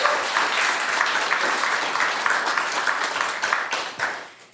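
At a storytelling event, an audience applauds a storyteller steadily, a dense crackle of many hands clapping at an even level for several seconds before thinning out and fading at the end.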